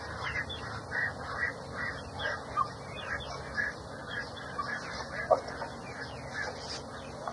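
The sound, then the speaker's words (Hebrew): A flock of birds being fed and given water chatters and calls continuously, with short scattered calls, one sharp click, and a steady murmur underneath. No one speaks. “תושתו טוב ציפורים, תאכלו טוב ותלכו לבריכה.”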